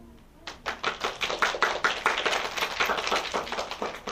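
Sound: audience clapping hands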